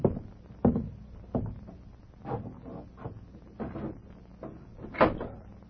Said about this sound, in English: Go over there and open that window.